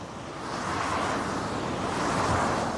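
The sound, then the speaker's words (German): Busy road traffic, including many diesel vehicles, rushes along Lindenstraße in Itzehoe, Schleswig-Holstein, a busy route toward the motorway, in a steady, dense roar that swells in after a quieter first moment and then holds at an even, fairly loud level. No voices can be heard. “Die Lindenstraße in Itzehoe, eine vielbefahrene Route im Norden der schleswig-holsteinischen Stadt, über die der Verkehr in Richtung Autobahn rauscht.”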